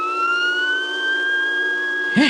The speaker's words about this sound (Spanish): El doctor Kiro y su corpulento cómplice y ayudante penetran en una espaciosa sala dotada de un equipo asombroso. Hay varias pantallas de radar y todo un sistema de alarmas, uno de cuyos sonidos se escucha en este momento.